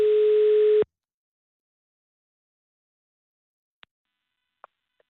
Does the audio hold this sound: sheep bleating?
no